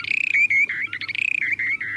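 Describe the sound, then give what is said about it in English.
A short-billed dowitcher's breeding song: a rapid bubbling trill, a fast series of clear, high warbling notes with brief pauses between bursts. The bird calls in flight as it glides earthward from about 150 feet with its beak open. Loud, with no other sounds around it. “You can hear their bubbling and trilling from up to a quarter mile away.”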